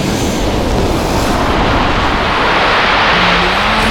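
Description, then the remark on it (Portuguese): A constant, loud, rumbling roar of giant tsunami waves surging and crashing, dense and turbulent throughout with no pauses and no voices. “É aquelas ondas gigantes que engolem cidade e ilhas.”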